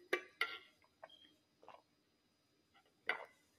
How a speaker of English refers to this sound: If you're listening, I was drinking some water, but yes.